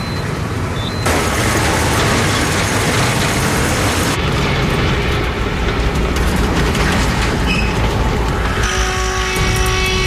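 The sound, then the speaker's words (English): A truck engine, low on oil, runs rough with a loud, heavy rumble with uneven sputtering and knocking that carries on steadily for the whole stretch, putting out gray smoke, with no voices. “But the engine's running rough. It's going to run really crappy.”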